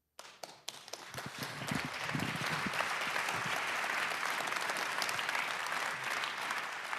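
An audience breaks into applause, a few scattered claps at first quickly swelling into steady, dense clapping that holds at full strength to the end.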